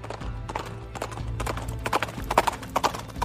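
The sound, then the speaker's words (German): Horse hooves clip-clop on a hard surface in a steady, uneven rhythm of sharp knocks at a horse festival in Aschersleben, over a low continuous rumble of background noise. “Das Besondere hierbei ist, dass die Stargäste nicht etwa auf zwei Beinen daherkommen, sondern auf vier Hufen.”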